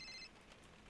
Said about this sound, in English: A phone call.